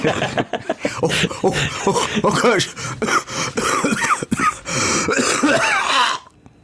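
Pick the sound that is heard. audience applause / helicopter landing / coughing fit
coughing fit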